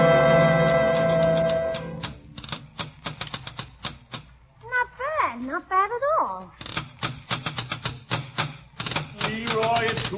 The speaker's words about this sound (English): What were you banging on just now, young man? I was drumming. What were you banging on? On the table here. It sounded pretty good, huh? On the table?